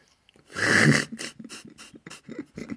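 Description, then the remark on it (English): A dog pants: one loud, rough breath first, then a quick, steady run of short huffing breaths, with no voices. “You can hear my dog getting involved.”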